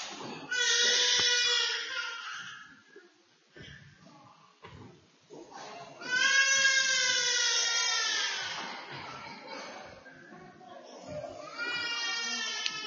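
A young child screams in long, piercing, high-pitched wails during a Bible reading at a church service, three loud bursts with sobbing, whimpering breaths between them and no other voices.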